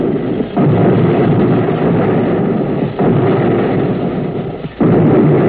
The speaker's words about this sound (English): You can't feel anything, only see and hear. And you hear the depth charges.